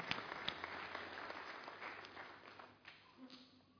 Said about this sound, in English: We just want to give a clap offering